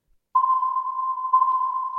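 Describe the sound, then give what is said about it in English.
A homemade submarine sonar effect: a steady, pure mid-pitched tone starts abruptly after a brief silence and holds for nearly two seconds, with a slight swell partway through. No talking. “That was a homemade sound effect.”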